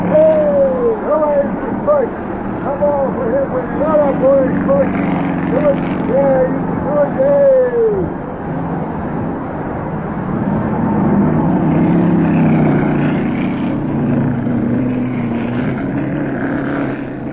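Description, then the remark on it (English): Racing car engines roar steadily and loudly during a race, with car number three right behind another car, rising and falling whines sweeping past during the first half, under a continuous rumble that carries on to the end. “Yeah, but that little feller in car number three is right behind him, and he's a tricky driver.”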